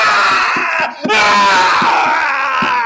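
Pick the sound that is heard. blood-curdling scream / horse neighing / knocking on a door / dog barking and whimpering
blood-curdling scream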